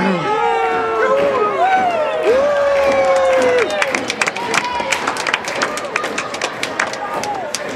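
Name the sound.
crowd cheering and clapping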